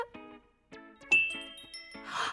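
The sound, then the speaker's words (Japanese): A bright, sparkly chime from a crescent-moon-shaped piano whose pressed keys light up plays several ringing notes in a loose sequence, with clear harmonic tones and a shimmering high swell at the end. No one speaks over it. “はあ、しかもこの三日月ピアノ、音もキラキラしてない？”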